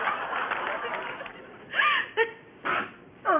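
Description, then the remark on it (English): After a stretch of quiet talk, a person sneezes: a few short breathy catches build up, and a final sharp, noisy burst drops quickly in pitch. “Bless you.”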